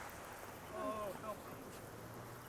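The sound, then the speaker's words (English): A steady, hissing wash of sea surf rolls along the beach at Tynemouth, continuous and fairly soft, with dogs playing and a brief faint call or voice rising over it midway. “I'm on the beach in Tynmouth, and you will hear the sound of the sea.”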